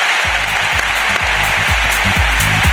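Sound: audience applause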